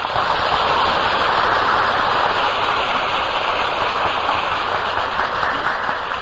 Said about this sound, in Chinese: 这个讲堂啊，以前曾经请过净空法师来上过课，这净空法师我们要跟他鼓掌。